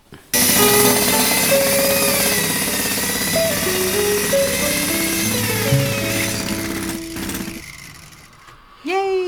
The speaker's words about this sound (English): So that horrible static noise gives us a clue as to what's in our World of Stuff this time round. Oh, wow, okay. So, World of Stuff, what do we have? Radio Garden, apparently.